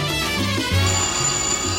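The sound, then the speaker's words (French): A telephone rings with a melodic electronic tone, its notes stepping up and down in a steady pattern. Loud, with no voices. “Ah, le téléphone.”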